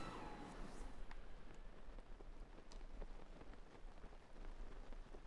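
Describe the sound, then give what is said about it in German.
Steady rain falls throughout, a dense hiss with scattered drops pattering on a surface, fairly quiet and even, with no voices and no other sounds standing out. “Natürlich regnet es, Digga. Schloss Hyrule regnet es immer, das ist der Witz an Schloss Hyrule.”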